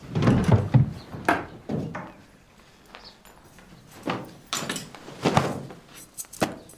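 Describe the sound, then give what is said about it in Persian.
A woman opens her small wooden chest in her room: a run of dry wooden knocks, clacks and scrapes, irregular and fairly loud, with a brief quiet stretch in the middle and no voices. “جیران به اتاقش میره و صندوقچش رو باز میکنه.”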